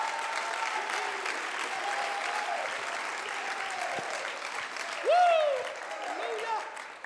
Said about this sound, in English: Oh, clap your hands and shout to the name of Jesus. Y alaben a Jesús.